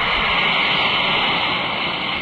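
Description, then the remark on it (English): A steady, bright fizzing hiss of an Alka-Seltzer tablet dropped into a glass of water and dissolving, holding at an even, fairly loud level for a couple of seconds with no voices. “Now listen as an Alka-Seltzer tablet is dropped into a glass of water.”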